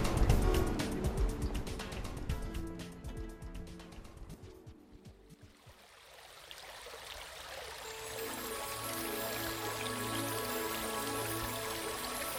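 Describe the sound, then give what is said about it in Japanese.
Water babbles and trickles continuously in a stream as a naked person lets herself go in it. The flow is dense and splashy at first, dips briefly around the middle, then flows on more gently with a steady, bubbling texture. “裸になった私はせせらぎの中に身を任せた。”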